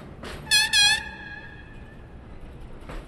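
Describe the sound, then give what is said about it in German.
A freight train convoy, carrying a load lifted onto it by crane, slowly sets off northward on one of 30 Hupac tracks, bound for Antwerp. Two short, bright horn blasts ring out and slowly fade over a low, steady rumble. “Und langsam rollt der Zugskonvoi Richtung Norden an, auf einem der 30 Hupak-Gleise.”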